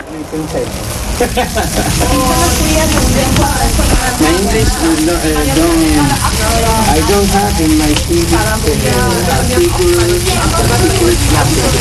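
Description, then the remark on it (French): Fat from meat drips onto hot embers and sizzles and crackles steadily during an asado, an Argentine barbecue, a dense, constant hiss with small pops, while voices talk in the background throughout. “C'est la viande, le gras de la viande qui tombe sur les braises lors d'un asado.”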